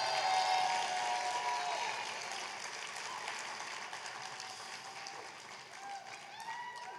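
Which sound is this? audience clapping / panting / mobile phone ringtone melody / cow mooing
audience clapping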